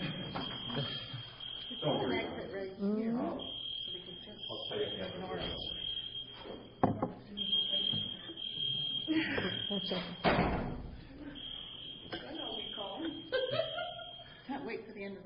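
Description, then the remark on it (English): A fire alarm in a building sounds throughout as a steady, piercing high tone with short breaks, while people talk over it and a few dull thuds land. “Fire alarm? Fire alarm?”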